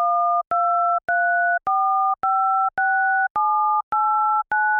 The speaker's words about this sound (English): Here are the numbers 1 through 9 on a TouchTone phone. See if you can hear the two separate pitches for each button.